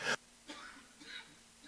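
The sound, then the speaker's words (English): A sharp cough bursts out, then trails into quieter raspy, wheezing coughs and strained breaths, with no talking. “Oh, here comes that coughing fit.”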